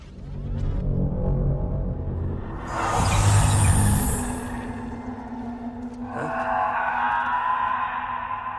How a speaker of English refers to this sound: We hear an animalistic scream. The record of this past event is otherwise soundless. What is this scream?